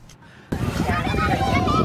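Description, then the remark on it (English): After a brief near-silence, tourists on a whale watching boat off Hualien County, Taiwan, suddenly burst into loud, excited exclamations and overlapping chatter as dolphins leap from the sea, with a steady rush of background noise underneath. “Tourists exclaim as dolphins leap from the sea.”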